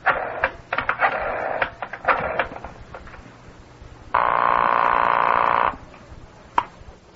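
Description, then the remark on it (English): A telephone being dialed to call in and place a bet: a run of irregular clicks and short mechanical bursts, then a steady electronic tone for about a second and a half, ending with a single sharp click. “You want me to call one? On the telephone?”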